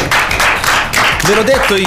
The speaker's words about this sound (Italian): Ma che spettacolo! Applauso, guarda, applauso.